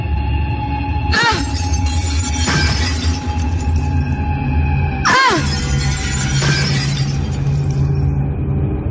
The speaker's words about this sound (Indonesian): Dalam kepanikan itu, aku mengambil sebongkah kayu dan mencoba memecahkan kaca jendela.